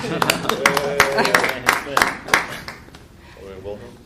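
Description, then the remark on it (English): A short round of applause for the aldermen: scattered, irregular handclaps from several people, mixed with voices talking and calling out, fading toward the end. “How about a round of applause for our once rookie aldermen that are now journeymen?”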